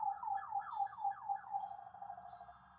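An ambulance siren wails in quick, rising-and-falling sweeps, fairly loud at first and then easing off toward the end as it moves past. There is no talking.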